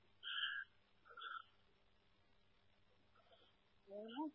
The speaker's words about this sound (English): It was probably, ooh, man, something really went after that bird.